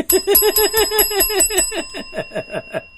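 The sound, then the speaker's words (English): A small bell rings rapidly about a dozen times in quick succession, its strikes gradually slowing toward the end, close and fairly loud with a lingering metallic ring and no voices. “Ring the bell.”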